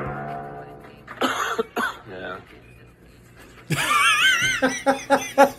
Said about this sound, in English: Well, I went to China for a week, and then after I came back, I've been coughing the whole time.